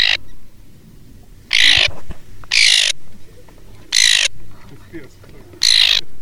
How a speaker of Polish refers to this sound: Część dorosłych ptaków słychać, że lata nad nami, skrzeczy. Oczywiście te dorosłe się niepokoją, aczkolwiek widzą swoje młode, słyszą młode, które się odzywają.